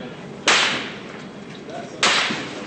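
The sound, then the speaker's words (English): Two sharp gunshots fired at Marines as they edge out of a police station crack out about a second and a half apart, each loud and abrupt with a brief ringing tail fading into a low background hiss. “The Marines take fire.”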